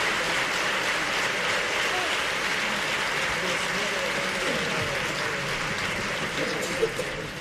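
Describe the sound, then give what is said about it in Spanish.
Sustained audience applause after a choir sings a tango in defence of Andalusian public healthcare, a dense, steady wash of clapping holding at an even loudness for several seconds, with faint crowd murmur mixed in. “Muy aplaudido, ¿eh?”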